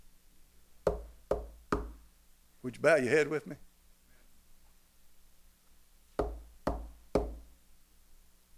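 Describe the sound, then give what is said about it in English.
Three firm, loud knocks on a door, a man's voice speaking briefly, then another set of three evenly spaced knocks. “I stand at the door and knock. Have you heard him knock lately?”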